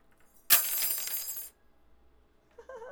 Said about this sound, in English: Swords dropping.